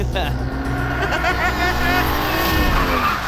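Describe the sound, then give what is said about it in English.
A taxi swerves onto the road shoulder with a brief tire squeal, then its engine roars and climbs in pitch as the driver guns it and accelerates hard, loud throughout. “He hits the shoulder, guns it. And I realize my cabbie is some sort of living corpse, and his car strictly serves side B.”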